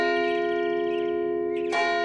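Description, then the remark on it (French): Church bells ring out from the bell tower of a Romanesque church with a sustained, resonant metallic tone, overlapping strikes blending into a rich humming drone, with a fresh clang near the end. Fairly loud and steady, no voices. “Le son des cloches rythme la vie des habitants.”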